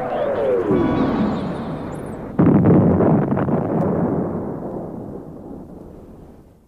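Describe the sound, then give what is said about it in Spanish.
A loud crash and explosion of a falling airship striking a windmill tower and breaking apart: a roaring, descending rush gives way to a sudden heavy blast, whose deep rumble slowly fades away. No voices. “La nave aérea descendió tras sobrevolarlo hasta el pueblo, donde chocaría con la torre de un molino de viento, deshaciéndose en pedazos con una explosión terrorífica.”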